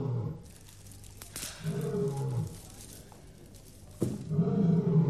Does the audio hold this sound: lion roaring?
yes